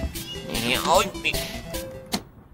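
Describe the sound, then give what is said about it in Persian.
A cat meows as someone puts it inside, a drawn-out, wavering cry rising and falling in pitch, with a person's voice and light handling noise around it. “بذار اول گربه رو بذارم تو همون.”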